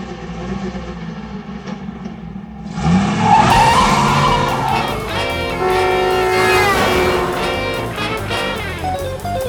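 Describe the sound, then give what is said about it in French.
A car idles briefly, then its engine revs hard and the tires squeal as it speeds away quickly, loud, with the roar rising in pitch and no voices. “Alors monte vite dans la voiture ! Je suis pressée aujourd'hui, j'ai 1000 choses à faire !”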